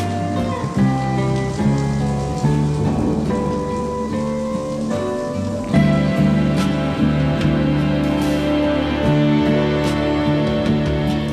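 Steady rain patters on a surface behind a sustained instrumental music passage, the wash of drops continuous and fairly loud throughout with no voices.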